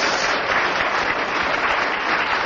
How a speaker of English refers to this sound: Oh, I think he deserves a round of applause for keeping going.